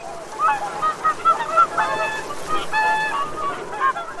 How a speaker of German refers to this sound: Ornithologen meinen, in dem wilden Geplapper der Singschwäne Begrüßungs- oder Triumphschreie zu erkennen. Sie hören außerdem Warnrufe heraus oder einfach nur aufgeregtes Geschwätz unter Nachbarn.